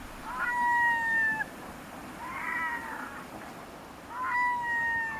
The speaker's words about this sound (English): Loose groups of red-throated loons in flight, perhaps 1,000 altogether, stream past. The tide has turned at Deception Pass at the north end of Whidbey Island in Washington State.